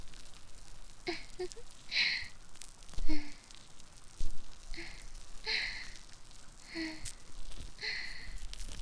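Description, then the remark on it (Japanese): Foam bubbles fizz and pop right by the ear in a steady, fine crackle, with soft squishy bursts recurring about once a second. No voices are heard. “耳元でパチパチ泡が弾ける音。”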